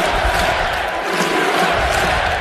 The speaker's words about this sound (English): And the crowd goes nuts, chanting USA.